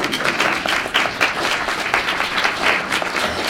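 An audience applauds steadily for the Open Society foundation's former president, who is in the crowd: a dense wash of many hands clapping at once with crisp, overlapping claps that keep an even loudness throughout, with no voices on top.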